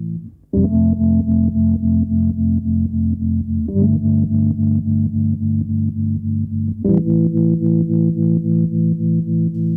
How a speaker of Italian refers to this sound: Nel brano c'è una lunga introduzione fatta dal piano elettrico con molto eco e riverbero